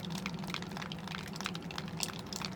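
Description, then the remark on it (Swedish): Water drips and trickles steadily from a roof at Önnestad folk high school as spring arrives, with many quick overlapping patters over a soft continuous wash of running meltwater. No voices are heard. “Han droppade från taket.”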